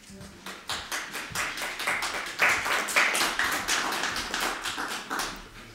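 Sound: audience clapping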